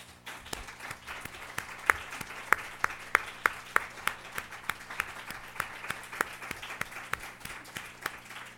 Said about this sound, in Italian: È un applauso che viene dal cuore, perché è stato uno degli incontri sicuramente più emozionanti di quelli che abbiamo avuto.